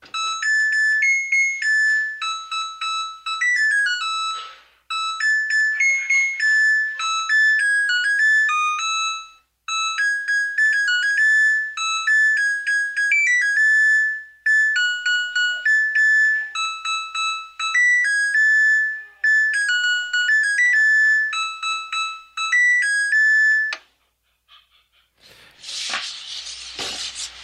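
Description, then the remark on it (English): A clothes dryer's alarm, played as the official theme sound of the show Off the Hook Overtime, plays a loud, high electronic beeping melody in several repeated phrases separated by short pauses, ending with a brief burst of rough noise. No one speaks. “Yes, I would throw the dryer out there. I'd throw it out the window too.”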